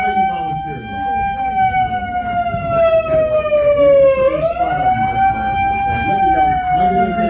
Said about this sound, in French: Une sirène qui sonne d'un coup. Excuse me, what was that? Some homeowner has gotten a workout. We've been able to save their home, save their mortgage and put them into a mortgage that they can afford. Voilà, la sonnerie, ça veut dire qu'on a réussi